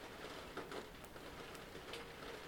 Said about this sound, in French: Attendre que cette pluie s'arrête.